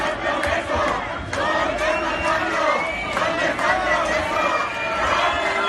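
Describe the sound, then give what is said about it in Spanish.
A crowd of activists carrying republican flags into a tent where former vice president Pablo Iglesias was shouts protest slogans together, '¿Dónde está el cambio? ¿Dónde está el progreso?' (Where is the change? Where is the progress?), a loud, continuous wall of overlapping voices with rhythmic chanting bursts rising and falling. “Entraban con banderas a la carpa, banderas republicanas, donde estaba el exvicepresidente, y lo hacían al grito de ¿dónde está el cambio? ¿Dónde está el progreso?”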